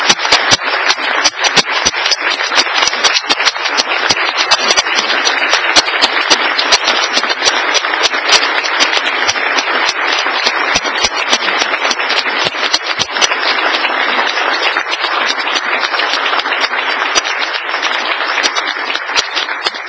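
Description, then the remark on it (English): Sustained applause from a crowd honoring seven police officers, dense and steady with many hands clapping at once, at a loud, even level for the whole stretch with no voices rising above it. “Please give these officers a round of applause.”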